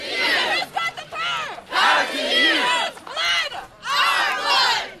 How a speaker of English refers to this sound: About 250 students from Brattleboro Union High School walked out of class Wednesday to protest school violence and to call for stricter gun laws. And they were supported by more than 100 adult community members who came out to cheer them on.